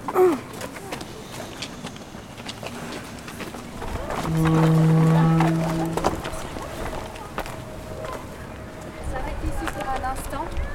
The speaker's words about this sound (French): J'ai entendu du bruit. J'ai entendu le bruit de ma partenaire et le bruit, le portail qui grince.